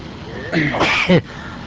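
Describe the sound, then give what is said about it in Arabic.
A single sneeze, a short voiced intake followed by a sharp breathy burst, moderately loud against a quiet background. “الحمد لله، يرحمكم الله، يهديكم الله، يحسن بالكم”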